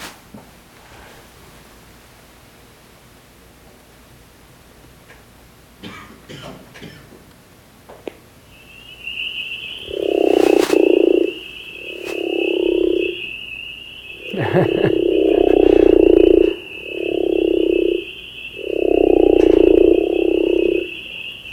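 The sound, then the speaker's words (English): A frog that lives in crawfish burrows in West Tennessee gives its deep, snoring-like breeding call: five loud, rasping croaks in a steady series, each lasting about a second, with a thin high whine running steadily through them. “Okay, the breeding call is a deep sounds like somebody snoring.”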